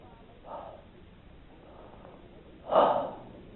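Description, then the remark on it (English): A voice demonstrates breathing in: a soft short inhale, then a deep, loud, drawn-out breath in lasting about a second, with no talking. “When they saw these cloven tongues like as a fire and it sat upon each, you know what the 12 did? They breathed in like this.”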